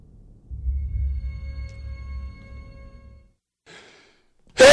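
A low, steady hum gives way to a quick breathy intake, then a sudden loud sneeze bursts out right at the end.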